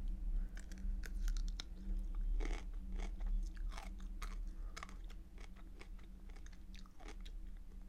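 Wet biting and chewing of juicy food, with juice coming out, repeated crisp crunches and squelches over a steady low rumble from nearby train tracks, no talking.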